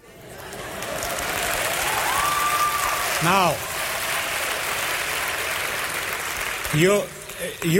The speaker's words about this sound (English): you clap because you understand. Because you're already citizens of the kingdom.